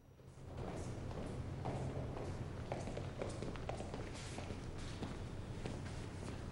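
Steady footsteps of people walking across a hallway to Hannigan's door, a series of soft thuds and taps on a hard floor at an even pace over a continuous low rumble of room noise.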